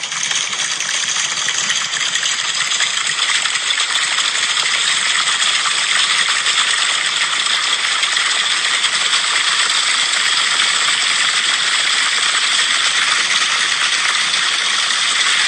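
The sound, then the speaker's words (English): A crowd on bleachers, conducted to imitate rain, produces a dense, steady hiss of countless tiny taps and pats, bright and continuous like a heavy downpour, with no talking for the whole stretch. “These are people being conducted to simulate rain.”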